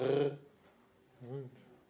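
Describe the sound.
A person imitates a dog growling with two short throaty rumbles: a louder one at the start, then a softer, rising one after a brief pause.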